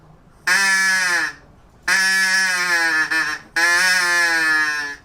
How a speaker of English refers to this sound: I'm more interested into sounds that are particularly maybe recognizable due to other type of flutes that we know as bird calls.